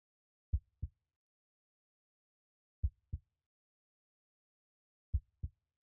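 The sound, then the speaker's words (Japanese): A person's muffled heartbeat heard through the chest during a hug: three slow, evenly spaced lub-dub double thumps, deep and soft, with silence between them and no voices. “先輩、私の胸の音、聞こえますか？もっとギュッてしたら聞こえるかな。”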